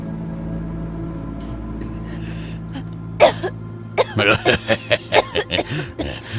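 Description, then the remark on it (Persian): A single harsh cough after inhaling smoke, then a rapid, sputtering fit of about eight more, loud, over a low steady hum. It sounds like someone choking on smoke. “خوبه، سرفه باعث میشه درست حسابی جذب بشه.”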